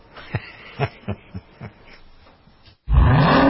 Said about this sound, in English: What do you hear? Most people just hear an engine. We hear a 6.2-liter Hemi V8 with a supercharger that accelerates so fast, it'll suck the air out of your lungs and knock you back in your seat like you're an astronaut in a rocket ship